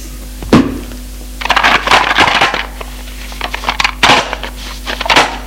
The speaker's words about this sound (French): Referme le coffre.